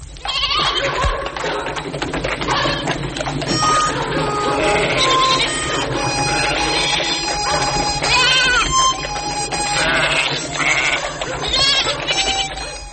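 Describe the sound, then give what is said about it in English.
Farm livestock at the Grice household bleating again and again early on a Saturday morning, several wavering, mid-pitched calls overlapping throughout, over a steady low hum of background noise with no talking. “The livestock you hear, the normal sort of sounds that the Grice household has early in the morning.”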